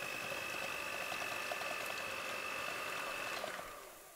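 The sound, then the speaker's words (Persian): An electric hand blender (meat masher) whirs steadily with a thin high motor whine and churning texture, mashing cooked meat for haleem, running alone before cutting off and fading out near the end. “حالا گوشتکوب برقی رو بذارید کنار، قابلمه رو دوباره بذارینش روی گاز”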